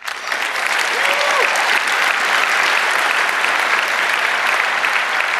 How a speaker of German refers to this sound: Applaus